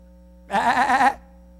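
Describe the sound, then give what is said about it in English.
A single loud, wavering sheep bleat lasting under a second, then silence with a faint steady hum in the background. “You need to do like all sheep do. And you know what sheep do, don't you? You just need to start screaming.”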